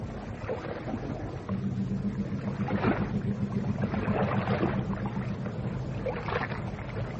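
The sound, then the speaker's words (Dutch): A boat travels across water toward a shipyard, with a steady low engine drone under continuous rushing and splashing, even in loudness throughout, with no voices. “Hoe lang is het varen naar die werf, schipper?”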